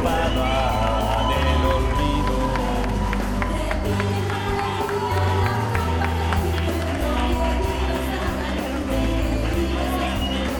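An audience breaks into sustained applause and cheering for the person who made it all happen, a dense wash of clapping with whoops rising over it, loud and steady for about ten seconds.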